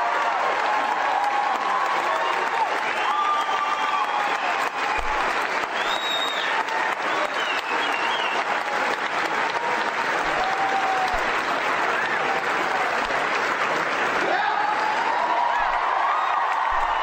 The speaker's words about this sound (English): Now they're all standing up and applauding, but they don't understand.